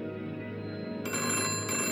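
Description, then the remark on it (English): A telephone bell rings continuously, a steady metallic trill that grows brighter and louder partway through, with no one speaking. “The telephone rang, and the glass of bourbon slipped from my fingers, shattering in a mosaic haze.”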